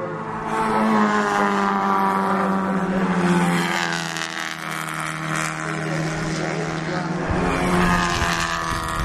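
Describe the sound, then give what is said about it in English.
A pack of four classic sports cars, Triumphs and MGs including a bug-eyed Sprite, roars past bunched together at racing speed, their engines droning loud, pitch rising and shifting as the cars sweep by in quick succession. “Just Triumphs and MGs.”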